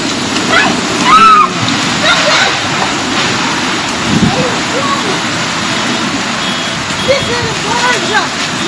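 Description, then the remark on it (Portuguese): A quick, heavy rainstorm in Campo Mourão pours down in a loud, continuous roar, with dense hissing spatter that holds steady for the whole stretch, broken only by a few brief splashes and faint tones. “Os moradores de Campo Mourão foram pegos de surpresa por um rápido temporal que deixou estragos pela cidade.”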